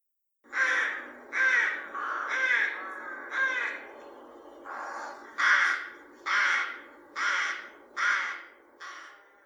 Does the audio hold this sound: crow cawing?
yes